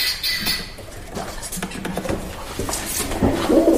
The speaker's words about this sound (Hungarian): Galamb.